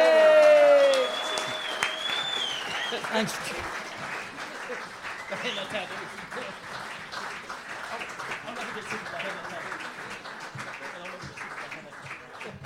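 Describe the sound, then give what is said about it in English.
A crowd bursts into steady, dense applause for performers Lemo and Mickey D while the stage is reset, holding at a fairly even level for several seconds, with a few voices and cheers mixed in and a brief spoken word at the start. “All right, round of applause for Lemo, Mickey D.”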